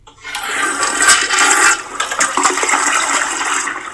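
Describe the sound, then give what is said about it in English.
A toilet flushes in a bathroom, a loud rushing swirl of water that surges right away and churns steadily for several seconds before cutting off, with no voices. “Did you hear that? Yeah, that's you need to throw me in the toilet and flush me because I'm still crashing out over the trainer's choice.”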